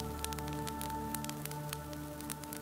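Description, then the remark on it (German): A soft, steady fireplace fire crackles at the other end of a room in a small old shop, with scattered small pops and snaps over a low, constant hum, heard alone without any voices. “Am anderen Ende des Raumes prasselt ganz sanft das Feuer eines Kamins.”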